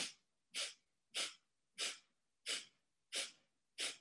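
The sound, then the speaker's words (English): A series of about seven sharp, breathy nasal exhales, sniffs out through the nose during a breathing exercise, evenly spaced roughly two-thirds of a second apart. Each burst is hissy and short, with brief silence between them and no talking. “Then you're gonna exhale 8 sniffs through the nose.”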